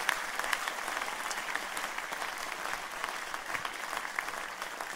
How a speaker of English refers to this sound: Give them a mighty hand clap, would you please? Or if you love them.